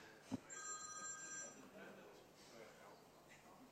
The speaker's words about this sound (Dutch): Iemand heeft telefoon.